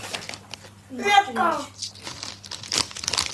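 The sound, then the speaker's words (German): A child crinkles and rustles plastic snack bags in uneven bursts, with a brief high child's voice breaking in partway through. “lässt du die Tüten mal hier in Ruhe, bitte? Ja, mal her. Sonst kippst du die gleich aus.”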